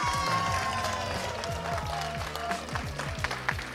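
A crowd breaks into sustained applause, dense overlapping clapping that stays steady for a few seconds, with some scattered louder claps and a faint murmur of voices underneath.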